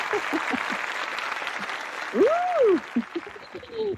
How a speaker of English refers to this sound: I just wanted to say, if I was in the radio station, if I were at the studio, I would be pressing my large crowd applause for you. Thank you. I will applaud for myself.